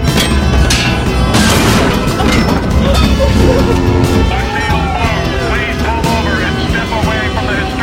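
In a harbour, wailing sirens rise and fall over a loud, dense rumble of engines and crashing noise, drawing nearer as police boats close in on a yacht; the din stays heavy and constant throughout.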